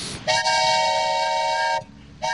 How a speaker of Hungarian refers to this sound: Ez olyan, mintha egy vonat érkezne. Vagyis vasparipa.